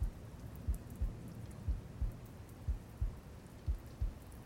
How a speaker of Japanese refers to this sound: 集中して私の音を聞いていてください。マスターの体内でもこうして心臓の鼓動が絶え間なく続いているのです。